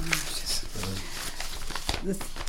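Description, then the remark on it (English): Papers rustle and crinkle in quick, uneven bursts throughout, fairly loud, with faint murmuring voices underneath. “The legally rustling of papers.”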